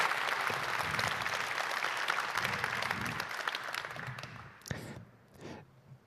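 An audience applauds to welcome the next speaker, who will give an overview of the Linux boot project: a dense, steady wash of many clapping hands, which thins out and fades over the last couple of seconds, leaving a few scattered claps.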